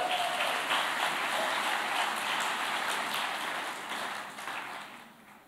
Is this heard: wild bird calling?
no